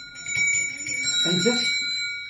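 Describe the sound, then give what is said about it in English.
Kutchy cowbells ring together in a steady metallic shimmer, several bright overlapping tones sustained throughout, with a low murmur of voice-like sound briefly rising beneath them. “These are genuine Kutchy cowbells.”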